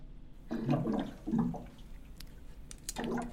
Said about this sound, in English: That's just some water. I'm not hitting a bong.